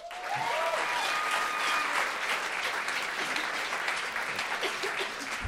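Sustained applause from an audience, a dense, steady crackle of many hands clapping at even loudness, with a few faint whistles and cheers rising through it.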